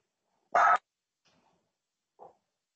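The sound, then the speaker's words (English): A dog gives one loud, harsh bark, then after a quiet pause lets out a much softer, shorter woof. No one speaks. “Is barking appropriate?”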